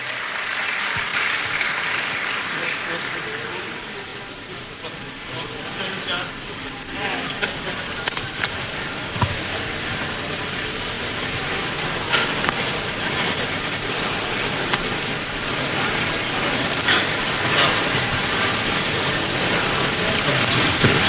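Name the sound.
audience applause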